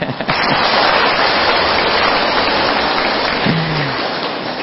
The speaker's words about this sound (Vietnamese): Nên cho chùa Phật Quang chàng pháo tay.